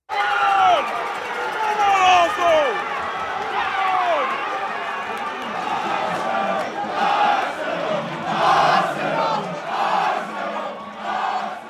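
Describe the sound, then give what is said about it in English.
A crowded bar in downtown Brooklyn full of soccer fans shouting and cheering together for Arsenal Football Club, a loud continuous roar of many voices with rising, swelling chants that surge louder near the end. “Instead, I was standing in a crowded bar in downtown Brooklyn, screaming my lungs off for my favorite British soccer team, Arsenal Football Club.”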